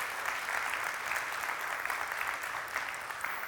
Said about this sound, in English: So let's give a round of applause for the Brazosport ISD Police Department.